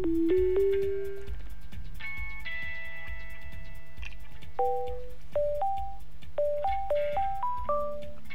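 A phone line plays a melodic electronic ringing tone during an outgoing call from Radio Študent to the office of mayor Zoran Janković: a sequence of clear beeping notes at shifting pitches over a steady low pulsing hum, with no voices.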